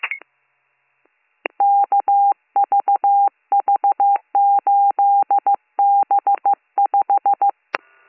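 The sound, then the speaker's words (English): Telephone dialing tones as a number is called again: rapid clusters of short, same-pitched electronic beeps separated by brief gaps, fairly loud and steady, with a click at the start and another at the end. “I'll try calling again.”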